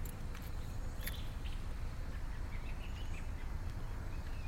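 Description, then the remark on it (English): Faint, scattered bird chirps in the morning come through a steady outdoor background hiss and low rumble, a few short calls spread across the moment with no one speaking. “So you can hear the birds. It's in the morning.”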